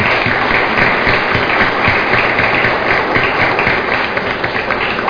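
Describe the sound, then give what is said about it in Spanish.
Steady, loud audience applause at a diploma program's certificate presentation: dense, continuous clapping from a crowd that holds an even level throughout, with no voices standing out above it. “Desde luego, fuerte, fuerte el aplauso para todos y cada uno de ustedes.”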